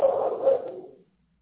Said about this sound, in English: What are you barking at, Tom? What are you barking at?